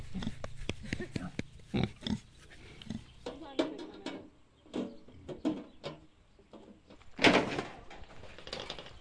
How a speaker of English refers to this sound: Rota's right here beside me, a gorgeous jet black cooney cooney pig, and I'm giving her a scratch on her back